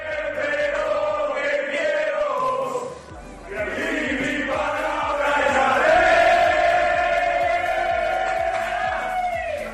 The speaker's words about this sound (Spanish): Este es el grito, el cántico y sobre todo la celebración de los hispanos, de los hombres de Jordi Rivera